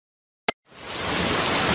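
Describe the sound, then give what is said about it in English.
A sharp click, then a steady hiss of rain swelling in and settling into a dense, even patter with no individual drops standing out. No voices. “Maybe it was the rain.”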